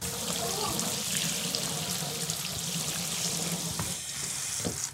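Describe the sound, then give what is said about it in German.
A bathtub tap in a first-floor bathroom of a house runs steadily with a full, rushing gush of water, fairly loud, continuing without pause for the whole stretch with no talking. “Und bei der Badewanne.”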